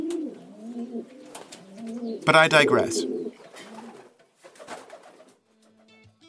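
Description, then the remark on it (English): Pigeons coo in low, throaty bursts, with a loud flurry in the middle, while a man speaks briefly around them. “Pigeons.”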